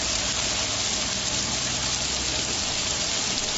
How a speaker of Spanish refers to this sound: La tormenta tuvo su momento más álgido a partir del mediodía, cuando comenzaba a amenazar con sonidos como este. Poco después comenzaba a llover con intensidad, también granizo.